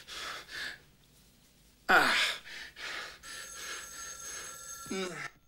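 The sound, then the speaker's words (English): A telephone in a room rings with a steady, shrill electronic tone lasting a couple of seconds, preceded by a man's heavy breaths and a sharp gasp, with a brief low vocal sound as it ends. “He goes back into the main room and answers the phone.”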